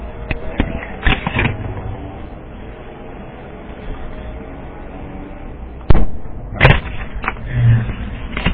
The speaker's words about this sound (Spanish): Bueno, es que no sé qué pasa, que estoy probando el teclado y resulta que cuando aprieto control, el micro no se coge.